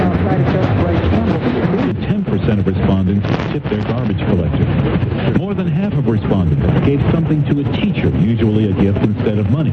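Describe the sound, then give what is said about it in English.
An AM radio broadcast from station 960 in Oakland, with a talk voice coming through, band-limited and steady, with a constant hiss and crackle of static mixed under the speech throughout. “And last night I heard KJR in Seattle, clear as a bell. They're in the background, I believe.”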